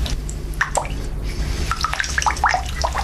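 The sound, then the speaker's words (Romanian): A faucet drips steadily, with small, clear water plinks falling every fraction of a second over a low background hum, fairly quiet, no voices. “Robinetul ăsta. Auzi cum picură.”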